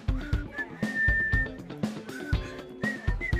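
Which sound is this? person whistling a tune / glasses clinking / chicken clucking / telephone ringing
person whistling a tune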